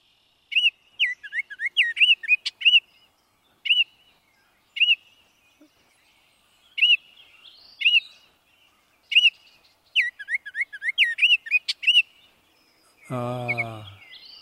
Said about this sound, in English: Now, the Baltimore Oriole is a clear whistle, somewhat reminiscent of Robin, and this is where it can get confusing for people. So there's the chatter. You can hear that in the background.